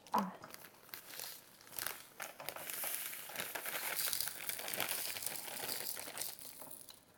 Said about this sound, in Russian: Нам нужно досыпать 33 грамма соли. Вместе будет 90, и плюс примерно 10 грамм уйдет на изоленту. Ну что, сыпь потихонечку.